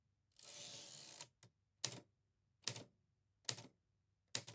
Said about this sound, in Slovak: Potom vyťuká dve slová, prikývnutím mi naznačí, že mám zatlačiť páčku, posunúť papier o riadok vyššie a vrátiť vozík do pôvodnej pozície.